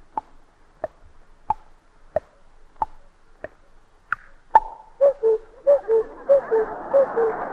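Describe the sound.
A voice imitates a cuckoo clock: seven steady mouth-clicked ticks, then a run of about six quick two-note 'cuck-oo' calls, each dropping in pitch, clear with no talking.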